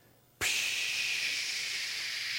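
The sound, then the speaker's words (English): An air hose inflating a new car tire just put on its rim gives a steady, loud, high-pitched hiss that starts abruptly after a brief quiet moment and holds evenly to the end, with no talking. “The guy puts the tires on the rim, and he takes that hose, and he...”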